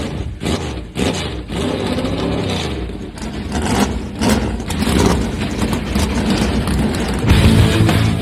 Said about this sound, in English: Drivers, start your engines! Let's go! The command has been given. Let's crank them up.